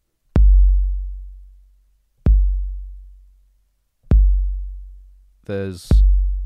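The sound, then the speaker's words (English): A slow, deep heartbeat: four soft, low thuds spaced almost two seconds apart, each fading in a long rumble, with a short voiced sound just before the last beat. “There's a heartbeat somewhere deep inside the Lego temple, at the very base, at the very foundation, the inaccessible center of this colossus that you've wrought.”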